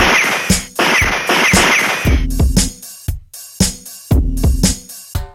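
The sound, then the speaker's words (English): A rapid, irregular string of loud gunshots, a dozen or more sharp cracks. Some come in quick pairs over a hissing noise that drops away midway, leaving short gaps between shots. “Ear-shattering gunshots exploded.”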